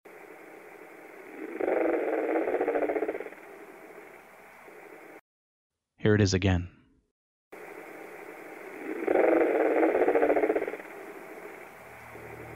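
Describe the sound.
A harsh, rumbling growl, unlike any known animal, rises out of steady hiss, fades, then returns a second time after a short spoken phrase in a brief silent gap, with a coarse, engine-like texture. Recorded on an audio recorder aboard a Navy ship, the USS Salem.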